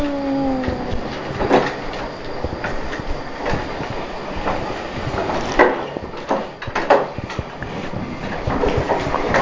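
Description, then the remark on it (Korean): A small cart being pushed rattles and clatters as it rolls along, a steady jangle broken by irregular louder knocks and bumps, with a brief squeak at the start and no talking. “덜컹덜컹 소리도 나네, 수레에서.”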